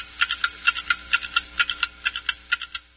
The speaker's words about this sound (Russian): Каждый тикает на свой лад.